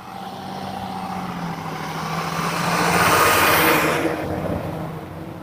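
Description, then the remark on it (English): A school bus rumbles past on a road, its engine noise swelling to a broad whoosh near the middle before fading away, with no talking. “School bus.”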